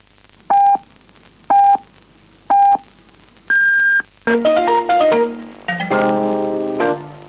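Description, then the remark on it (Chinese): A radio hourly time signal for 10 a.m., sponsored by Jiurun lubricant: three short, evenly spaced lower-pitched pips, then one longer, higher final beep, clear. A bright musical jingle follows right after. “九润润滑油为您报时，现在是上午10点”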